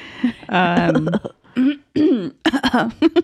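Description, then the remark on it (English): A person imitates their grandfather with exaggerated coughing noises: a strained, voiced groan followed by a quick series of short, harsh coughing bursts. “a little homage to our grandfather. That's coughing.”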